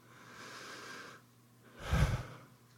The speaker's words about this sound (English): That is God breathing through you. And that's why the breath has become such a sacred symbol in all kinds of spiritual paths. The sacredness of the breath.